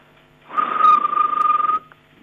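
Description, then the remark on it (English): A person imitates chirping crickets with a single steady trilled whistle lasting just over a second, buzzing with rapid pulses, then stopping abruptly into quiet. “It's actually, you know, when the crickets rub their legs together, my dad used to hate that sound, and I used to love antagonising him when I was younger.”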